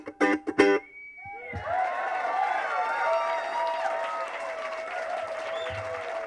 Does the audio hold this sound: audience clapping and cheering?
yes